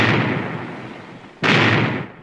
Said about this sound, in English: Aye, there's the sound of adventure. Cannon firing. Must be a pirate force attacking a fort.